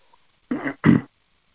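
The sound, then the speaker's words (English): Two short, rough coughs in quick succession, with a throaty clearing quality and silence around them. “Oh, excuse me, I had a coughing fit.”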